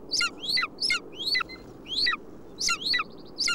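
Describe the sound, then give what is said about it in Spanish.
A territorial female bird in the breeding season, nesting in a nearby rocky cliff, calls repeatedly in short, sharp bursts, about eight in quick rhythm, clear over a low, steady background hum. “Se trata de una hembra y su pareja no estará muy lejos.”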